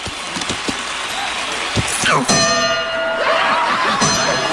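A bell is struck once at a wrestling match and rings on with a sustained, shimmering metallic tone, fairly loud over a steady hiss of background crowd noise.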